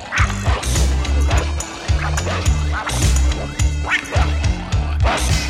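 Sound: small dog barking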